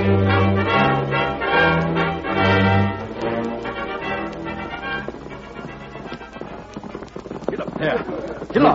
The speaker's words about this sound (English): What sort of a horse that Redskin riding? He's traveling hard. Look at him now. He's slowing up. By ginger, Sheriff. He's drawn his horse right down to a stop.